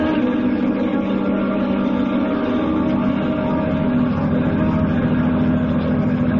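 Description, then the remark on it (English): A car engine hums steadily as someone is driven home on a long trip, a low, even drone with strong harmonic bands and no break or change in pace throughout. “Oh, well, I won't hear of a taxi. I'll drive you home myself.”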